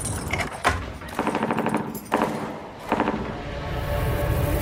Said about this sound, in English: Do you hear that? Close gunshots.